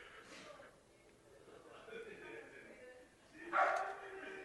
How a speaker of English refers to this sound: Is that a dog? Maybe it is, yeah. Who are these dogs?